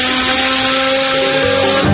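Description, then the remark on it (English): A power drill whines steadily at a loud level in a small workshop, its pitch holding constant for about two seconds before shifting slightly as it drills a hole into a pumpkin. No voices are present. “Then he'd go into his little workshop. And drill a hole in that pumpkin.”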